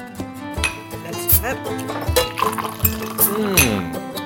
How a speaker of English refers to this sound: Ich gieße jetzt mal einen Schluck ein und probiere mal. Beautiful yellow color. Looks like yellow sparkling honey.